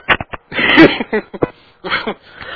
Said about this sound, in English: Man, I'm coughing a lot.